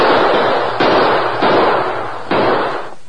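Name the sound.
gunshots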